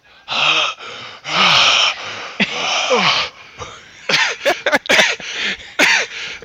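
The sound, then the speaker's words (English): A person does an exaggerated comic 'Fat Man' wheezy gasping impression: a few long, strained inhales first, then a rapid run of short, choppy gasps, loud and raspy, with no talking. “As I was doing that Fat Man wheezy gasp, I actually made myself dizzy.”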